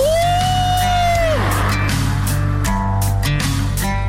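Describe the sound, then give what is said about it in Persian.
A long, high sustained scream that slides down and breaks off, followed by more scattered shouts and whoops from friends on a road trip, over a steady low rumble, voices echoing inside a road tunnel. “چه تونلی، چه هوایی، جیغو بزن ماشاءالله.”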